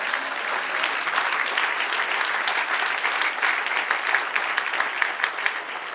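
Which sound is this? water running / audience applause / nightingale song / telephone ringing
audience applause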